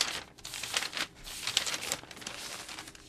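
Pages being leafed through: a run of crisp, papery rustles and flicks, several quick turns in a row, fairly soft and steady with no voices.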